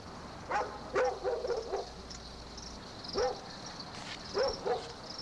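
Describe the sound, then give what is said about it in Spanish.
Dogs bark in short, scattered bursts: a quick cluster of yaps, then single barks after pauses, fairly faint against a quiet night background with no one talking. “Pero los animales siguieron ladre y ladre, y no nomás esa noche, sino todas las noches por más de un mes.”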